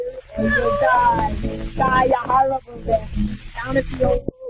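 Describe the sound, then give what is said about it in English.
A cat meows repeatedly, loud, drawn-out wails rising and falling in pitch, coming in several bursts with brief pauses between them. “I will kick the cat just for spite, bad pussy.”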